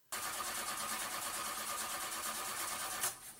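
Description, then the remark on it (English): A car engine cranks and catches, settling into a loud, steady rumbling whir for about three seconds before cutting off abruptly. No voices are heard. “Starting my car.”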